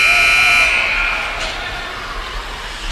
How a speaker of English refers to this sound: And that is the whistle ending the second period. But after 40 minutes of play, Conn College on the board, 1-0.